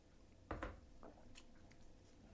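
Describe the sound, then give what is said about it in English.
A quiet sip of coffee: a short wet slurp, followed by a few soft mouth and swallowing clicks. No one speaks. “I am now about to put on a mask, taking a sip of coffee first.”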